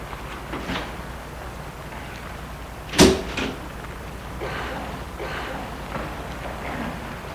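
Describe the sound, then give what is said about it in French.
A key works the lock of an apartment building door as a woman lets herself into her building: one sharp metallic clack followed by a softer knock, set against a steady low background rumble with no talking. “Et elle va mettre la clé pour entrer dans son immeuble.”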